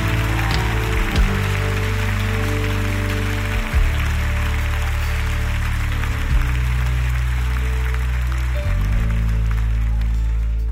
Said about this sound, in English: Come on, clap those hands and bless the Lord.